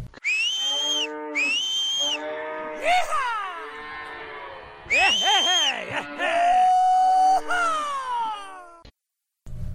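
A herd of cattle moos loudly, long drawn-out bellows overlapping one after another, some rising and falling in pitch, with a brief lull near the end, as cowhands shouting and whistling drive the herd north at a slow walk.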